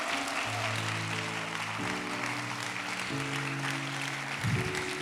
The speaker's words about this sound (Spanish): Vamos a darle un aplauso fuerte al Señor si tú lo crees.